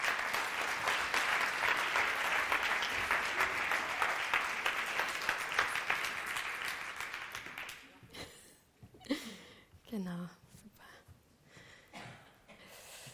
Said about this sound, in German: Begrüßt sie bitte mit einem herzlichen Applaus.